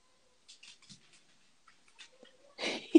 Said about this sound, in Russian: И котята цок-цок-цок-цок-цок-цок. Да, да, собака на фоне гоняет котенка. И это цок-цок-цок-цок-цок по паркету.